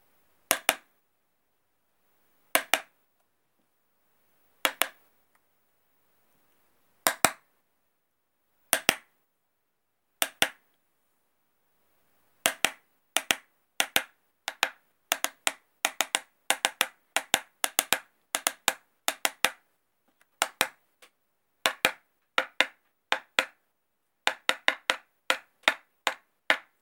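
Sharp, crisp knocks tap out the themes of a well-known symphony's first movement, starting as widely spaced single raps and then breaking into quicker patterned clusters of beats, with no voices.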